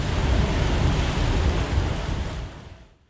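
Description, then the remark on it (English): A geyser erupts, spraying water and steam upwards with a loud, steady roaring hiss, a dense rushing sound that holds for a few seconds before fading away near the end. “I watched it burst into life and spray water and steam upwards.”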